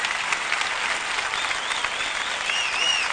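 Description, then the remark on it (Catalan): Sustained applause from a large crowd after a long 45-minute proclamation speech (pregó) at the Sitges festa major, a dense, steady wash of clapping that holds at an even, fairly loud level throughout, with a few faint high whistles near the end. “45 minuts de 45 minuts, dèiem, de pregó, llarg pregó, llarg aplaudiment.”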